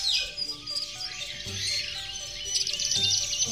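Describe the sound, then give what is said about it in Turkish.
A flying reptile's shrill, high-pitched screech rings out, made of layered squawking calls that rise and waver over a few seconds, fairly loud, with no one talking. “ördek gagalı dino, şu yukarıdan bize bakan kuş da kim?”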